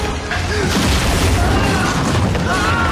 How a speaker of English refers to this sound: While Will searches the hold, Pintel fires his cannon, severing the interceptor's main mast.